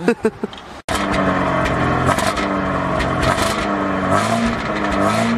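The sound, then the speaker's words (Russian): A car engine revs hard through a loud, throaty exhaust with a can-type muffler and a 50 pipe, continuous, its pitch stepping up and down after a few short bursts and a brief cutoff at the start. “Мега выхлоп. Акрапович отдыхает.”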